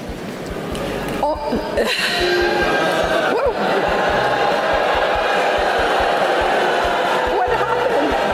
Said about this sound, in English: listen to these University of Central Florida students booing their commencement speaker after she praised AI